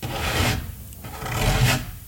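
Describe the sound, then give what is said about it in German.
Two slow, rasping scratches drag across a girl's wooden door at night, each a broad rough scrape lasting about half a second, fairly loud with a short pause between them. “Ein Kratzen an ihrer Tür.”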